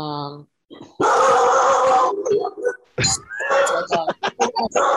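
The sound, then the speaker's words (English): A dog lets out a sudden, loud, harsh noise lasting about a second, cutting in after a brief tone, followed by quick, excited voices reacting. “The dog, to see all three of us collectively jump up when that dog, especially on my headphones,”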